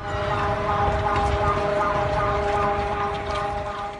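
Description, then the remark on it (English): A loud, steady earthquake early-warning alarm siren in Mexico drones continuously over a rumbling, noisy background, holding a sustained tone for the whole four seconds without pause, sounding just before a powerful quake struck. “But first, just before the powerful quake struck Mexico this week, alarm sirens rang out.”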